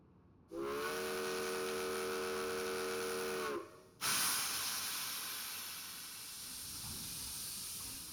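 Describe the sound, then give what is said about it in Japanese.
A departing steam train's whistle blows a steady, layered tone for about three seconds, then cuts off as a loud burst of hissing steam takes over and continues broadly to the end. “では、そろそろ発車いたしますね。”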